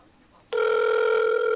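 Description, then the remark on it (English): After a brief quiet pause, a phone's outgoing ring tone kicks in abruptly: a steady, buzzy electronic tone heard over the line, loud and unbroken until the end, with no one talking. “He never answers his phone though.”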